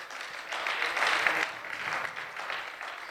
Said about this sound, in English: One more time, can we applaud the Lord for his goodness?